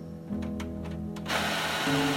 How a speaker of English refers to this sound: Using the office printer, Matt printed as much evidence as he could carry.